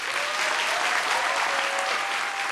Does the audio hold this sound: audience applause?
yes